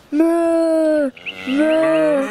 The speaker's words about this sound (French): Mais moi, j'ai bien aimé le son de la vache.